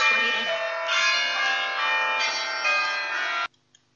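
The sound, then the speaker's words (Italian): Church bells peal continuously, dense overlapping rings with bright harmonic overtones swelling in waves, fairly loud, then stopping abruptly near the end, followed by silence. “Scusate, sono delle campane, quasi a essere questa voce del Signore, questo messaggio di Paolo VI.”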